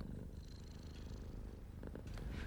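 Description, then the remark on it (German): A tired old tomcat named Bresthaft purrs steadily while lying in a living room, a low continuous rumble with a soft rhythmic pulse, with no voices present. “Während ich mir so meine Gedanken machte, schlich sich eine müde alte Katze ins Wohnzimmer und legte sich neben Frau Diepholz.”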